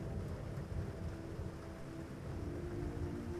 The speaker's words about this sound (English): And the sky is being illuminated by the frequent lightning above. The rain pours down, and all you can do is keep the bow of the boat facing all of the waves that are coming at you.